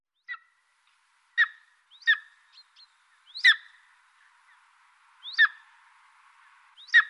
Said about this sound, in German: Das sind meistens große Vogelarten, Adler.